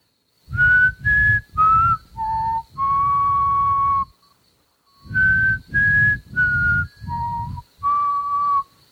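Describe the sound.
A person whistles a short five-note tune, the one the aliens and humans use to communicate in a movie, holding the last note, then repeats the phrase after a brief pause. The whistling is clear, with no talking.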